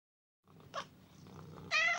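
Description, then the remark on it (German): A four-year-old house cat purrs steadily, breaking into a short meow and then a longer, louder one near the end; no one speaks. “Mauzi, unsere Katze.”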